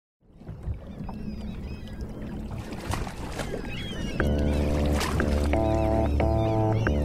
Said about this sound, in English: It's 1895, and waves are slapping against a groaning steamship, the Coptic, docked in San Francisco Bay.